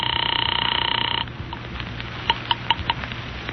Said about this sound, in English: One moment, sir. I'm ringing Miss Blake's apartment.